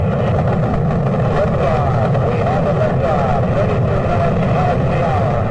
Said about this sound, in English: 2-1-0. All engines running.